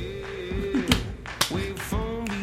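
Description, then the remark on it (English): Four crisp finger snaps land at a steady pace over a loud, sustained musical backing, each one sharp, keeping time with the beat. “Oh, you clap with this? Or are we snapping again?”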